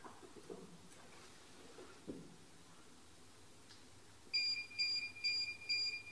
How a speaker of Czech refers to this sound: Pípá to na nás.